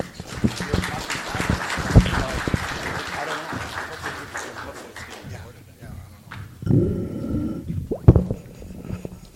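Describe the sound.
A crowd breaks into steady applause for a few seconds, dense and fairly close, then it dies away and a voice briefly speaks up over the quieter room.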